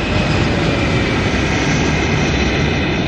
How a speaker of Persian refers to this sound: این هواپیما که استفاده میکنیم یه فالکون 50ه که ما از شیشه کاملا شیشه مقابلمون استفاده میکنیم. حالا این سمت پروازمون هم به سمت هلال گرفتیم. میایم از تهران که بلند میشیم ایشالله، میریم روی قائم شهر.